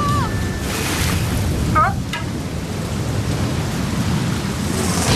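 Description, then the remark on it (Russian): Heavy storm wind roars steadily with driving rain over the sea with huge waves, a dense, loud wash of noise throughout, with a few brief whistling tones cutting through near the start. “Прости, Райдер, я не могу разыскать лодку при таком ветре.”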